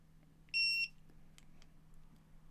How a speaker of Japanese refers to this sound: 音今聞こえましたかね。これ自分で時間設定できるタイマーを準備してて、例えば一回5秒で動かしてみますね。